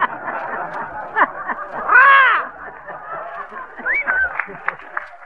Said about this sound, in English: Now, that's a trombone, sis. What's a trombone? A trombone? Well, a trombone is a musical instrument that was invented so the fella could sit in an orchestra and keep his eye on his derby at the same time.